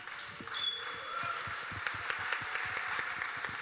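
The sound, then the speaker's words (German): A crowd applauds steadily for the speakers, including bestselling author Matthias Bröckers, at the Acid-Holz, many hands clapping at once in a dense, sustained wash of sound that stays fairly even throughout. “Und last but not least, Matthias Bröckers, Bestseller-Autor, muss ich auch nicht vorstellen, einen Applaus bitte für alle.”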